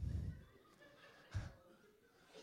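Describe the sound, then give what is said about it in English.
A person mimics a donkey's bray with a few short, throaty voiced bursts spaced apart, the loudest at the start, fairly loud against a quiet background. “Donkey's there going.”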